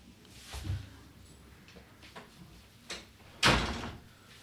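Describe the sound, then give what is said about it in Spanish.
A door is handled and shut: a soft thump and a few rattles, then one sharp, loud closing bang near the end. No one speaks. “acaba de llegar mi novia, voy a cerrar la puerta.”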